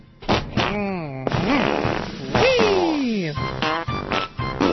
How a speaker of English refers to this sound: That was the worst farting song I've ever heard.